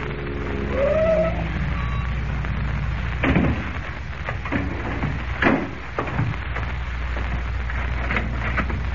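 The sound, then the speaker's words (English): A car engine rumbles steadily as the vehicle, a borrowed car, pulls up in the morning before the real estate office of Ed Jinks, with a brief rising whine early on, then a few sharp knocks over a constant hiss like light rain. “The following morning, before Lois and Jimmy awaken, Kent, in a car borrowed from Graham, pulls up before the real estate office of Ed Jinks.”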